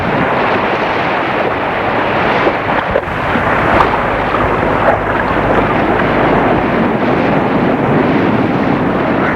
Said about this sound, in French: avec de très fortes bourrasques de vent.